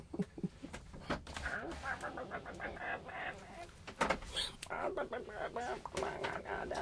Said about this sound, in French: Un petit poulet.